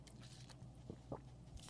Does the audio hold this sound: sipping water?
yes